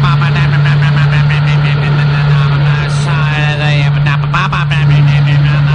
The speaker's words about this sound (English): Johnson outboard, a little rowboat off to the side of the bay.